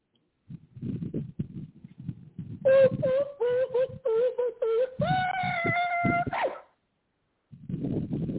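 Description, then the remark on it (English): A dog gives a quick series of short, pitched barks, then breaks into one sustained, wavering howl. Low rumbling noise comes before and after. “No, you gonna stop that damn barking.”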